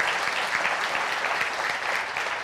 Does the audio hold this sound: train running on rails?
no